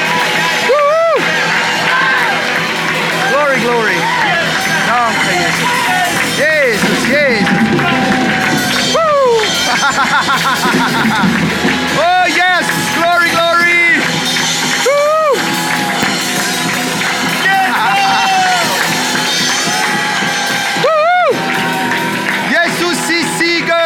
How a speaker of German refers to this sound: Lass uns unseren Gott nochmal einen tosenden Applaus geben, voller Liebe.